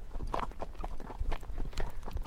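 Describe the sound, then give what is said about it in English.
Horse hooves clip-clopping on a tarred road in a steady walking rhythm as the horse is led onto the road, each hard strike sharp and clear, with faint background noise between the steps. “Let's actually pull him a bit into the road so they can have some tar sound, and then back onto the side.”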